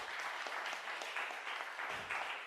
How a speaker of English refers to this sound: And an applause.